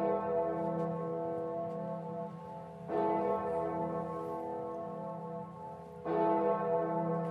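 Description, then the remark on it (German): A large, deep bell in Erfurt Cathedral tolls slowly, each stroke swelling into a long, rich humming tone that lingers; three strikes roughly three seconds apart, with no voices. “Ja, da wollen wir natürlich noch mal kurz reinhören, wie diese Glocke, diese besondere Glocke im Erfurter Dom so klingt.”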